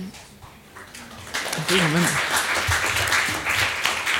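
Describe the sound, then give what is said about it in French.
An audience applauds three sign-language interpreters in the hall, dense crackling claps swelling after a brief spoken phrase and holding steady at full strength to the end. “Merci de les applaudir.”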